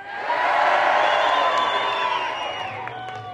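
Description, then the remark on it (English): A crowd of about 1,000 people at a local forum on the outskirts of Sydney, held over a proposal being considered by Camden Council, erupts in loud, sustained cheering and whooping in opposition, a dense wall of many voices shouting together, holding steady for a few seconds before easing slightly. “But last night, about 1,000 people turned up to a local forum to discuss the issue. They made it quite clear what their view on it is.”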